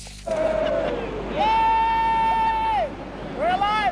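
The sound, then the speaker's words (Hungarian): Passengers coming off one of the world's largest luxury ocean liners shout 'Élünk' ('We're alive') and cheer in drawn-out, high-pitched calls, over a steady murmur of crowd noise. Three long shouts rise and fall, the middle one held longest. “Élünk, kiabálták a leszálló utasok.”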